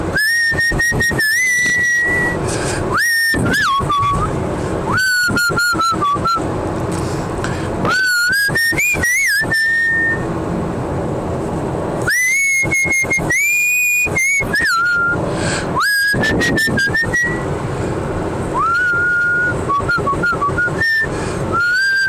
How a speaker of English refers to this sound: I haven't whistled in a while. I'm just trying it out again.